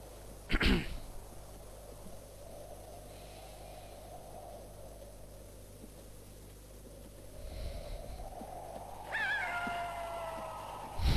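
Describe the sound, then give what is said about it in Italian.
A coyote howls near the end in a Western scene, a rising tonal wail over steady background hiss, after a sharp burst of noise early on and a low rumble midway. “Un coyote a cazzo. Vabbè, ci stia, siamo nel West.”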